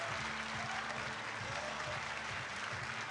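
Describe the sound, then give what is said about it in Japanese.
An audience claps steadily and loudly throughout at the public recording of the Tenka Chaya 10th anniversary show in Tokyo, a dense wash of many hands applauding together with a faint murmur of voices underneath. “大きな拍手をお迎えください。”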